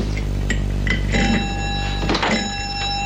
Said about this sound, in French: Dans la soirée, la porte du bar s'ouvre.